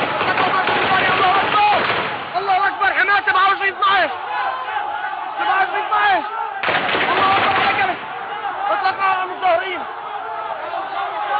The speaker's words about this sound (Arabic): نشاهد هذا القصف في مدينة حماة اليوم حينما حاولت ان تهب في مظاهرة نصرة لحمص. اطلق رصاص على المظاهرين.